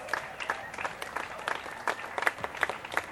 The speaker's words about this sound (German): Mal einen Applaus für die.